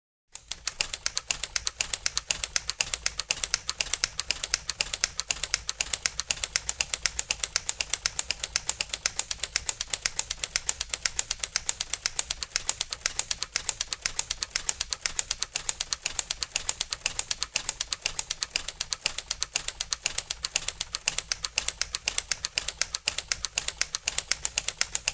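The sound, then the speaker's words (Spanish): Rapid, steady typewriter typing goes on without pause, dense crisp keystrokes clacking fairly loud with no voices present. “La historia de la máquina de escribir es una obra pues casi antropológica”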